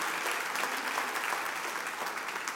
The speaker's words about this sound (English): Somebody give Jesus a hand clap.